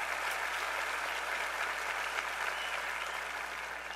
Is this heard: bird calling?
no